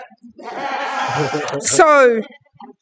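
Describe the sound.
A woman volunteer does a loud bleating imitation of a sheep, a wavering nasal "baa" held for a couple of seconds with a quivering, rising pitch, ending in a brief breathy tail.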